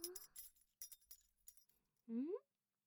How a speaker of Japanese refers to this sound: なーに？鍵がいっぱいあるのに興奮しちゃった？そうですよ。番号つけて管理してるんです。じゃらじゃらって、すごい数でしょ？